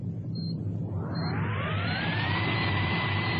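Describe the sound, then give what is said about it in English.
A deep, steady engine rumble swells as all of a vessel's engines start and run full astern, a rising whine climbing over about two seconds before settling into a loud, sustained roar. Two faint beeps sound near the start. “Start all engines.”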